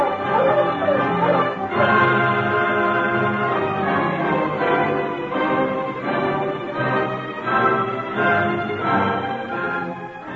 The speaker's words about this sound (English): That Mountie's going to be mighty surprised when he finds he's trailing a dog team without a driver. Mush, you huskies! Mush!